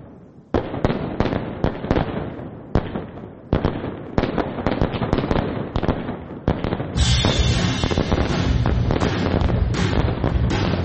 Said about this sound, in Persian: که با سر و صدا یا نویز آتش بازی شروع میشه.